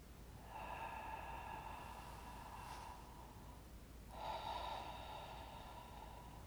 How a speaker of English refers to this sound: Allowing the mouth to be open and breathing through the mouth for the next few cycles. Feeling the lift of the soft palate at the back of the roof of the mouth on inhalation and keeping some of that lift on exhalation.